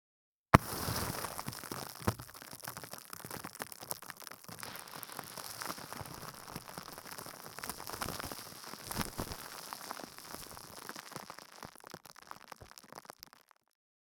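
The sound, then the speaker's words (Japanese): Carbonated water fizzes steadily for about thirteen seconds, a dense crackle of tiny popping bubbles that starts abruptly and holds a bright, even hiss throughout, with no voices. “耳の奥まで炭酸水の音はいかがですか？”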